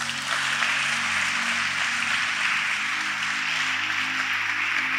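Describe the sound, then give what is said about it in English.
An audience claps for Jesus steadily for the full five seconds, a dense, continuous patter of many hands at even loudness, with a low sustained tone humming underneath and no voices. “Clap for Jesus.”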